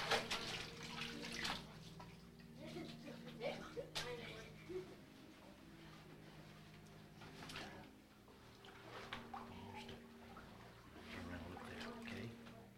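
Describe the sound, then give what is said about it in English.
Water sloshes and splashes in a warm baptismal pool during a baptism, with a few sharper splashy bursts, while people talk quietly in the background throughout. “We're excited that the water's warm today, I think, okay?”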